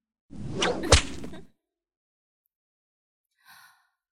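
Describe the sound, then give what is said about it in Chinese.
A hand-dyed red riding whip swishes through the air and lands with a sharp crack, followed after a pause by a second, fainter and shorter swish. No one speaks. “那我们来换姐姐最喜欢的那个马鞭吧。”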